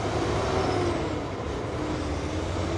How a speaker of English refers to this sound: You're hearing the constant rumble of truck traffic along I-95 near Savannah, where another important interstate also intersects, I-16. This is a major transportation logistics point along the East Coast.